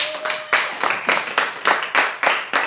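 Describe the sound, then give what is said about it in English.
A class audience claps for a woman who will teach many portions of the class next year, the sound dense and fairly loud, with a steady pulse of synchronized claps roughly every quarter second swelling through a bright wash of many hands. No one speaks. “Clap for that.”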